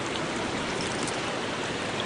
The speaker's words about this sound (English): The creek is coming up a little. The waters are getting a little muddy from all the melting from the snow.